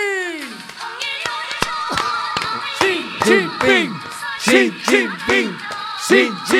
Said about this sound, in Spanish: Sí, por favor, forte aplauso para o amado líder.